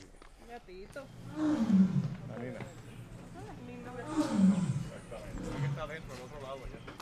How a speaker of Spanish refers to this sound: La leona comenzó a golpear el acrílico y a rugir cuando nos acercamos.